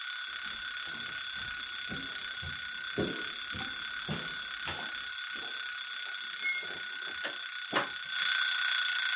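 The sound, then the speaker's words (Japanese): An alarm clock rings continuously in the morning with a bright, shrill electronic tone, steady and fairly loud throughout, with soft muffled thumps and rustling beneath it and no one speaking. “いい加減に目覚まし止めなさい。”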